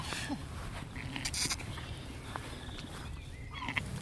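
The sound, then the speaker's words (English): A ewe makes soft, low, murmuring bleats to her newborn lamb, gentle and quiet against a faint rustling background. “She should love it straight away, but she has been a bit of a funny sheep. And she's talking to it already.”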